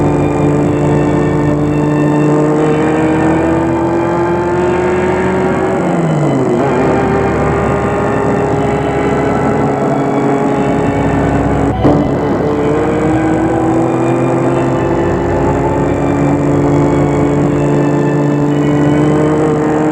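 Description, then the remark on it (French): A car engine drones steadily throughout as a chauffeur drives it toward Lyon, its pitch dipping and climbing again a couple of times as it shifts gears, with no voices present. “Demain matin, il est parti pour Lyon avec son chauffeur et sa voiture.”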